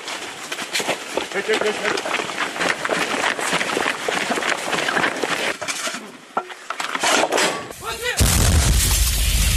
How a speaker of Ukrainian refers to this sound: Українські військовослужбовці виявили ціль в напрямку окупованих пісок і ведуть вогонь із гармати. Гармати! Постріл!